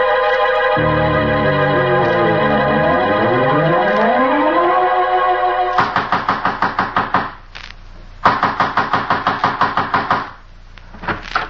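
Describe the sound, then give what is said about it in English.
Loud, rapid pounding on a door in two long bursts with a short pause between, then a few final thuds, following a sustained wavering, siren-like tone. “trying to break down the door?”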